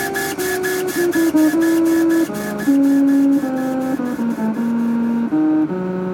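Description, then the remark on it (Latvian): A laser engraving machine, given the title Princess Leia, runs at the Riga Technical University Design Factory in Ķīpsala, its motors giving off a steady whine that jumps between pitches in quick steps, almost like a crude melody, with a faint buzzing hiss underneath. “Lāzergravēšanas iekārtē, kuru dzirdat, piešķirts tituls Princese Leja.”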